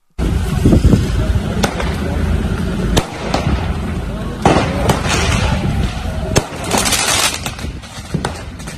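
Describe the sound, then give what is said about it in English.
Sharp firework bangs crack out repeatedly over a loud, chaotic night-time street disturbance at Lanark Way in Belfast, as fireworks are thrown at police units, with crackling bursts, what sounds like breaking glass, and shouting voices mixed into the constant rumble. “but we can hear first some of the sounds of last night's disturbances on the streets of Belfast as PSNI units came under attack from fireworks thrown at them at Lanark Way.”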